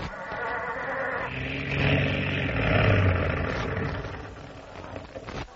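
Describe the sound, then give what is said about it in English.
A cold car engine struggles to start, a low rough rumble with sputtering that swells in the middle, then sinks back before stopping abruptly. No one speaks. “Start the engine, Pedro.”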